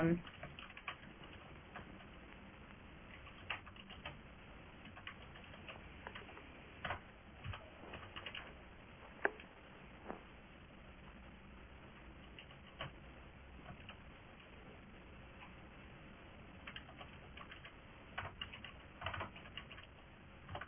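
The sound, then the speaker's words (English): Steady, irregular clicking of computer keys being typed on, fairly quiet, with brief pauses between bursts and a few sharper key taps standing out. “I can type, but I can't see the cursor.”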